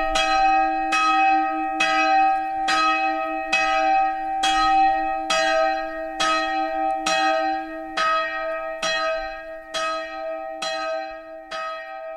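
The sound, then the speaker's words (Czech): A woman bell-ringer pulls the ropes of the small and large bells in the local village chapel of Martinšina; the bells ring in a steady, unhurried rhythm, each strike blooming into a long, humming resonance that overlaps the next. Loud, with no voices. “Ovako je vedro iz zvonarke iz Martinšine, želimo da njezine ruke još dugo povlače užat na malom i velikom zvonu u mjesnoj kapelici.”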